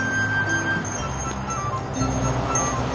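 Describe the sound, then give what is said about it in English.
A hand bell rings with sustained, bright metallic tones, rung on the sidewalk by a person dressed as Santa Claus in a snowy town at Christmas, over a steady wash of street noise and faint background voices, the ringing blending into the busy, constant din. “A person dressed as Santa Claus rings a bell on the sidewalk.”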